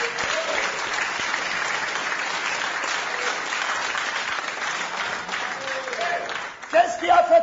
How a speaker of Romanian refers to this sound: Amen. Credem noi aceasta. Să-l aplaudăm pe el.